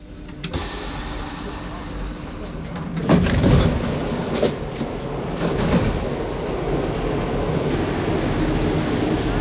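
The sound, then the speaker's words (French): A metro train rumbles steadily, its wheels letting out thin, high squeals over the continuous roar of the carriage, with indistinct voices faintly mixed in. “Vous alliez où en métro”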